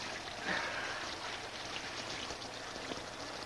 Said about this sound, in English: Behind her at the sink, Earl sticks his head under the faucet and wets his hair.